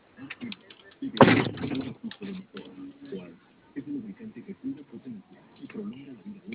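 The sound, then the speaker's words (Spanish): A single loud clunk, like a door being unlocked and pushed open, stands out near the start, followed by people talking in the background. “¿Y tienes bloqueo de puerta? Voy a abrir.”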